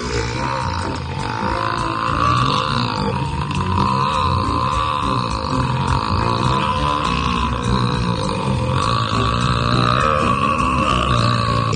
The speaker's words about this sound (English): Three, two, one, burp.